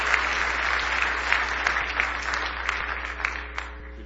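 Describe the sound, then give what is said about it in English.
A large group claps steadily and enthusiastically for several seconds in praise of God in the morning, a dense wash of many hands with a few sharper claps standing out, sustained applause. “Give him one more big hand clap of praise this morning.”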